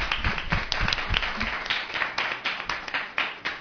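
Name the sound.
audience applauding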